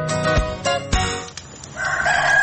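A rooster crows in a drawn-out, high, wavering call that rises toward the end, mixed with a couple of sharp thumps and a steady tonal background.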